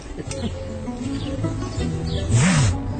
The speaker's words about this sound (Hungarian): Az itt egy pillanatra megmutatnám a hallgatóknak a gépjármű forgalom erősségét.